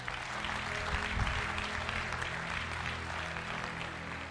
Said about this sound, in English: Clap, clap, clap.